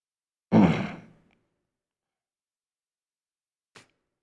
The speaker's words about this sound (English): Just a second, I clear my throat here.